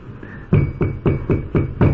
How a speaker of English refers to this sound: Narada Muni banged on the door. Narada Muni ponovo pokucao na vrata.